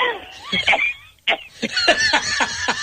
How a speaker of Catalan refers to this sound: ¿Pero qué es aquesta tos?